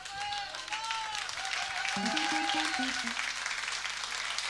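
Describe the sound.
An audience applauds steadily, a dense, continuous patter of many clapping hands, with a few voices and a short whistle-like tone rising above it.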